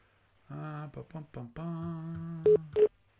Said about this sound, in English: Okay, you hear the beep too.